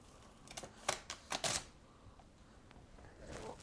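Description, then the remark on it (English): Zigzag scissors snip through paper in a quick run of crisp, clicky cuts, about five or six sharp snaps clustered together, then quieter rustling and a faint trailing crunch. “You're back to cutting again. Mm-hmm. That's the zigzag scissors you've got.”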